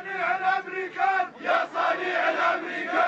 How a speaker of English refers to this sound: Last night, crowds of people gathered in the capital. Some shouted that the king is a friend of America. They meant it as an insult.